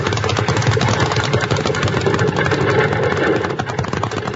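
A horse-drawn wagon, its team driven by a man, rushes by in a loud, steady rumbling clatter of wheels and hooves that fills the whole stretch and eases slightly at the end, with no one speaking.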